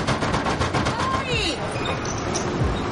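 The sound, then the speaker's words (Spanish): A rapid run of loud, hard bangs pounds on a garage door, about half a dozen quick metallic strikes that rattle and ring before fading into a murmur of background noise. “Golpea la puerta de una cochera.”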